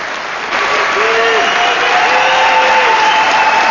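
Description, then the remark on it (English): A large crowd of adoring fans bursts into steady applause and cheering, calling for a speech, dense and loud throughout, with a few whistles and calls rising above the clapping. “Her director, the crowds are calling for you to make a speech.”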